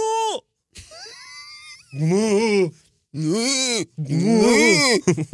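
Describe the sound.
A person vocally imitates a wildebeest's call with a series of nasal, moaning grunts, several loud, drawn-out calls rising and falling in pitch with short pauses between them.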